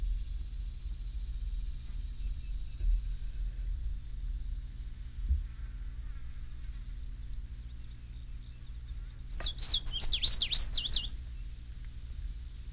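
A brief burst of indigo bunting song, a quick, bright run of high warbled notes lasting about two seconds, rising clearly over a steady low hum and faint background.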